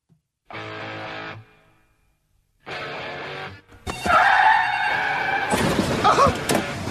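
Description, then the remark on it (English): Two bursts of loud car tire screeching, a pause between them, then a jarring car crash with shattering glass and clattering debris that rings out to the end. “Let's get to car wreck of the day.”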